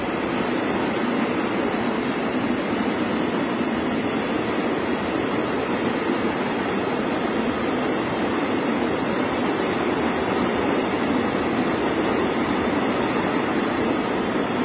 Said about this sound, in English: Where else can you hear the sound of freight trains going by on the radio? That's the last car.